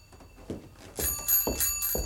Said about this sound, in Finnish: Kuulitteko mitään? Minä ainakin olin kuulevinani kellon kilinää. No, enkö sitä sanonut? Joku soitti ovikelloa, tulee vieras.